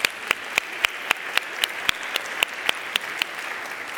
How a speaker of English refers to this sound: you did such a good job. Can we clap for you? Yeah.